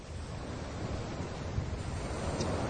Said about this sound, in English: Just now I've recited the Guru Yoga Lama Tsongkhapa both in Tibetan and in English, sitting at this beach in the eastern state of Kelantan in with a great view for everyone to see, and some soothing ocean sounds.